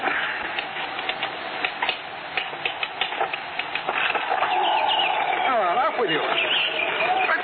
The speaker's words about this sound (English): the window seems to be cracking. I've already seen to it. It's some bird trying to get in. Send them away. I can't sleep with that noise.